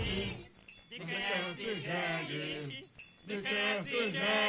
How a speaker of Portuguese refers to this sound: Ah, rapaz, não é jegue não, é jumento.